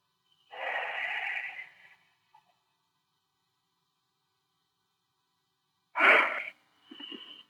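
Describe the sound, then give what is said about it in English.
A long, breathy yawn drawn out for over a second, fairly loud, followed after a quiet pause by a short sharp exhale and a softer voiced breath. “that yawn is not being bored, that yawn is a lot of negative energies that are being removed.”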